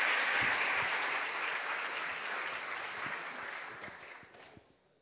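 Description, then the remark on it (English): A crowd claps steadily in a dense wash of applause, loud at first and gradually thinning before fading out near the end, with no voices over it. “A little round of applause”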